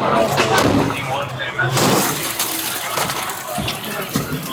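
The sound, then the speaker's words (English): Glass smashes in a loud burst as NYPD police break a window of a barricaded hall occupied by protesting students, followed by scattered tinkling and clinking of falling shards amid muffled voices and general commotion. “Police break a window.”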